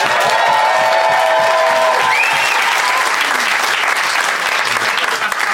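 An audience applauds loudly and steadily for several seconds to vote on who is in the right, dense clapping throughout, with a few faint whoops and whistles rising above it.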